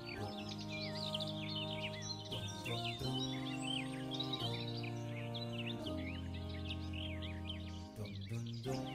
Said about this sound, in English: The trees around here, hear that? They're filled with weird birds like parrots and parakeets, and that's because the Ottomans had a tradition of selling birds for cages, yes.